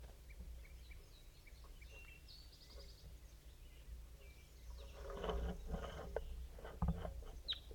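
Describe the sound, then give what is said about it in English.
A wild crossbill gives a few short, high chirping calls in quick bursts, faint over a steady low rumble of background noise, with some rustling and thumps later on. “I'm recording, and there's a wild crossbill around here.”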